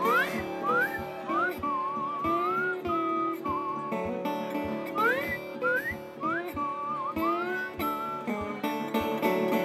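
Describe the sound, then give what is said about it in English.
A person whistles a bright, sliding melody in clear upward swoops and held notes, carried over a steady band accompaniment with a regular percussive beat throughout. “You mind if I whistle on this one?”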